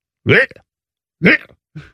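A voice imitates a cat retching and projectile vomiting onto stairs: three guttural heaving bursts, two fuller ones followed by a shorter, weaker one, with no other sounds around them.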